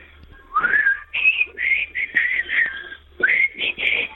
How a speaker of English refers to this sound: your lips are pursed and ready. If you'd be so kind for us, why don't you blow us a tune?